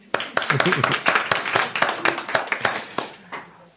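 Audience applause: a crowd claps steadily for a few seconds, sharp overlapping hand claps forming a dense, moderately loud patter that thins out toward the end.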